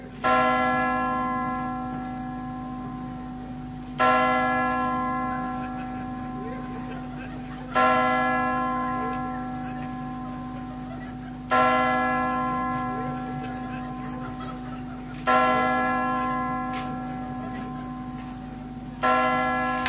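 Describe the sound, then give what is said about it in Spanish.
A large, resonant clock bell strikes six times at a slow, steady pace as the New Year's chimes, each ringing toll overlapping the long, humming decay of the one before. “Esto que escuchas son las campanadas de Central del 99.”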